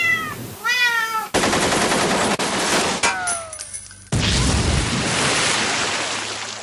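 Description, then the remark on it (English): A cat meows with rising, wavering cries, then a loud burst of rapid machine-gun fire erupts, followed by a crashing, splashing rush of noise that continues steadily to the end. It is a sound effect of a cat firing a machine gun at a bucket of water. “A pussycat firing a machine gun at a bucket of water.”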